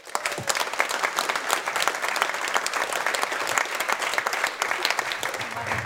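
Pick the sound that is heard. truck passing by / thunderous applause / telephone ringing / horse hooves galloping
thunderous applause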